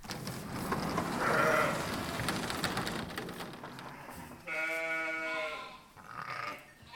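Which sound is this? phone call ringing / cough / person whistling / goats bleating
goats bleating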